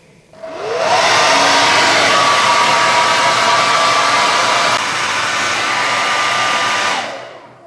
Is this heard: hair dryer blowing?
yes